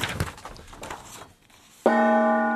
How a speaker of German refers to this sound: Was mit dem Gong? Gongst du? Warte, ich gong kurz.